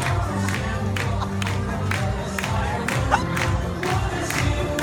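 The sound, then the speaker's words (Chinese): A crowd claps in a steady rhythm, about twice a second, while a man dances, amid loud cheering and a dense mix of voices, with music-like tones running underneath throughout. “你看全场就只有他跳的最多，我们其他的人都在旁边拍手，他就是跳得很开心。”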